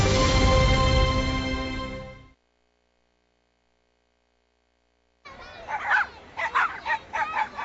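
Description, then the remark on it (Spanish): After a loud sustained tone and a few seconds of silence, dogs bark in a quick series of repeated yaps, moderately loud, with no talking. “¿Te encargo a mis perros?”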